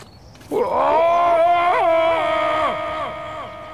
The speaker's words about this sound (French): C'est alors qu'un terrible grognement retentit.